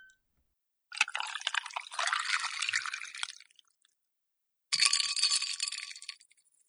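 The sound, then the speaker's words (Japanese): Plum wine (umeshu) is poured into a glass in two separate pours, a long gurgling splash and then a shorter one whose pitch rises as the glass fills. It is clear, with no talking. “じゃあ私も同じの飲もうかな。”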